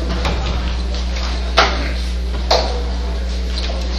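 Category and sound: household object, door being closed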